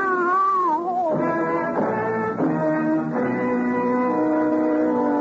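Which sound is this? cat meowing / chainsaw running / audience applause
cat meowing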